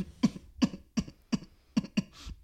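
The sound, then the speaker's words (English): A voice imitates a string of small, dry coughs, about seven short bursts in a quick, steady rhythm, fairly quiet, with no talking. “You know when someone has a cough?”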